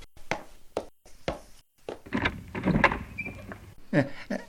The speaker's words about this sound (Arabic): لحظة يا بني، سوف أذهب لأفتح الباب.